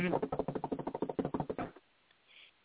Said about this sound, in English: Number one. Drum roll, please. Drum roll.